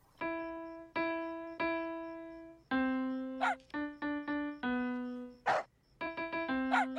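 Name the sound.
puppy barking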